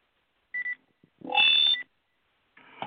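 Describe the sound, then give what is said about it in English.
Short electronic telephone keypad tones sound in quick bursts as phones are switched over, followed by a longer, louder beep and another tone at the end, with no voices. “Okay, that means I need to switch phones.”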